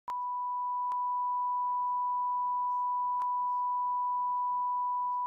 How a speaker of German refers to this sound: Ja, der ist nicht jugendfrei. Dann müssen wir ihn piepen.